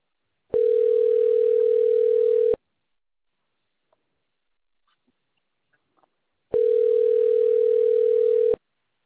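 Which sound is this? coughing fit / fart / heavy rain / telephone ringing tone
telephone ringing tone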